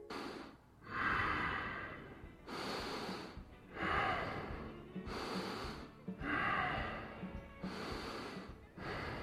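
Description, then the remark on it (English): Heavy, noisy breathing from a sleeping animal named Rhonda, with rough snorting breaths repeating in a slow, steady rhythm, about four cycles, fairly loud with no talking. “And now here's a new recording of Rhonda breathing that I took a few days ago.”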